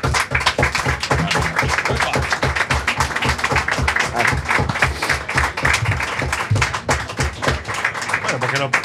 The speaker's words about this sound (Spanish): La banda necesita un reconocimiento, por lo menos por la gente que está aquí, porque eso es algo que se merece un gran aplauso, el dedicarle tanto tiempo.